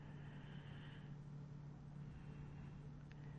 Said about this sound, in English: As my mom would say, oh, look at the old car.